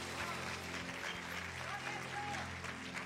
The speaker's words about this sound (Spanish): O denle un aplauso fuerte al Señor. Aleluya.